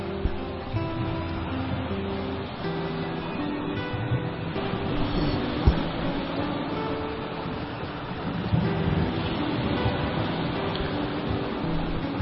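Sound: flowing water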